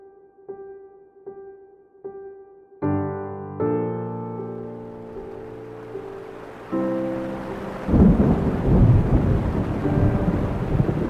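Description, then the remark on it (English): Three soft tonal pings give way to sustained droning chords, then a thunderstorm swells in: deep rumbling thunder and a steady hiss of rain growing loud by the end. “That thunderstorm was so, I don't know how to say, it was so strangely beautiful that it was eerie.”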